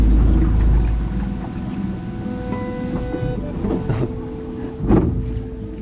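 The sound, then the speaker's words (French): A boat engine drones steadily with a strong low rumble and shifting tonal whine as the boat maneuvers along a narrow waterway lined with palms and lianas to pass underneath an obstacle, punctuated by a few brief knocks and splashes. “Là, on a fait 5 minutes de bateau en gros.”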